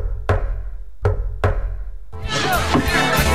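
Three sharp, fairly loud knocks on a door in a secret-knock pattern, one followed after a pause by two in quick succession, then a burst of noisy rustling clatter.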